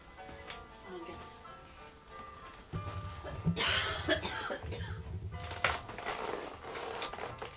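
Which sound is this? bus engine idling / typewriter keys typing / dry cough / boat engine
dry cough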